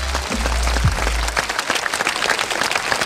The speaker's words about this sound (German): Also den hast du jetzt wirklich verdient, den Applaus.